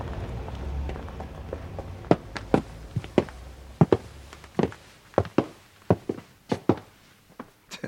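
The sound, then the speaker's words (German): Several people, children in the lead, run off across a hard surface to search, their quick, uneven footfalls overlapping in sharp thuds against a low background rumble, fairly loud with no voices. “Die rennen los, als wenn es einen Goldklumpen zu finden gäbe.”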